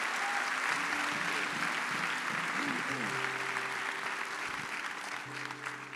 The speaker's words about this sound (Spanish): Vamos, dele el aplauso al Señor en esta hora.